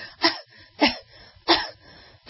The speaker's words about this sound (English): So when women cough, they do this.